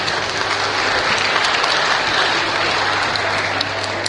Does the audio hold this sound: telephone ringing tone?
no